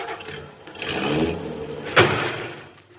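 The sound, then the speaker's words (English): A car engine hums and revs, then a single sharp metallic thump cuts in as the car's bumper hits the fender of a parked car, followed by the engine settling and fading. “That parked car ran right into us.”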